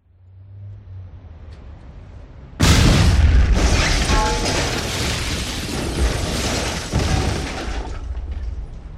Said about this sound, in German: In der Innenstadt explodierte die Fassade eines ansonsten unverdächtig aussehenden Bürogebäudes. Eine dunkle Rauchwolke stieg entlang der Hausfront nach oben.